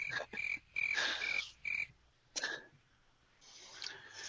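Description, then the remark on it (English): Crickets chirp in a quick series of pulsed, high trills, several bursts in a row, then a fainter, steadier chirping toward the end. No one speaks. “Play crickets on yourself.”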